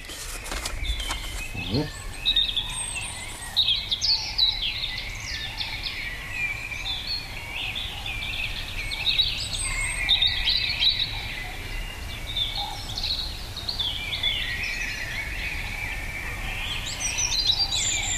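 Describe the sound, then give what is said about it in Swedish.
A robin sings high, silvery phrases over a steady outdoor chorus, with blackbirds and trumpeting cranes in the background. No one speaks, and the birdsong carries on for the whole stretch. “Här hörde vi ju koltrastar och tranor i bakgrunden,”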